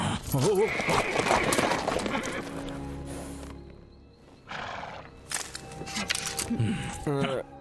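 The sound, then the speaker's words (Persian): A horse-drawn carriage rolls along with hooves clopping steadily, a loud whinny rising near the start and a brief squeal toward the end. “نه میگم اون درشکه لعنتی و نگه دار، یه چیزی دنبالمونه.”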